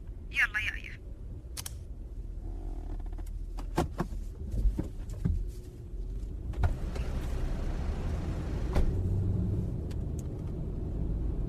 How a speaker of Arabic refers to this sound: يلا أنا جهزت، بشغل السيارة وبترياك، لا تبطين علي.